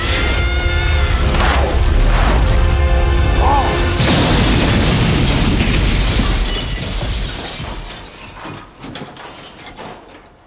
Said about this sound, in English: The explosion wrecks the bridge. No. As the bridge collapses, Mole tries desperately to gain control of the digger, but it slides backwards into the other vehicles and they all fall one after the other into the black void below.